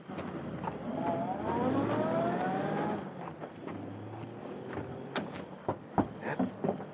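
A car engine revs hard with a rising whine for a few seconds, then the sound eases off as the vehicle pulls away, leaving a few scattered clicks and knocks.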